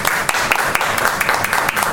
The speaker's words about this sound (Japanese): どうぞ3名の方一度ご起立ください。皆様拍手をお願いいたします